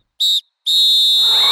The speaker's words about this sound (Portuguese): Apito árbitro! Fim de jogo!